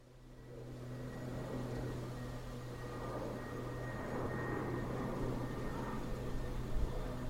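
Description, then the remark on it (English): A steady, broad engine drone of an aeroplane passing overhead, building gradually and holding, with a low hum underneath and no voices, recorded at volume 8 on a recorder without automatic gain control. “Thought I'd get a bit of that aeroplane which is going by at about volume 8 on the recorder.”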